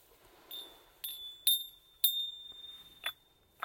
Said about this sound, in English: A little, you know, these little Indian bells. Listen.